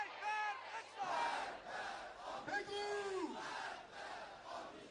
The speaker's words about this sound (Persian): با حضور با شکوه مردم ولایت مدار مشهد، راهپیمایی جامعه خشم و نصر با محکوم کردن جنایت‌های رژیم جعلی صهیونیستی در مشهد برگزار شد. یک بار دیگر مردم ولایت مدار ایران اسلامی متحد، هم پیمان و یک صدا خشم و انزجار خود از رژیم صهیونیستی را فریاد زدند.